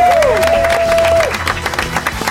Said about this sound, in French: Faut applaudir fort près du micro. Non, t'es pas obligé. Comme ça, on fait croire qu'on est 200.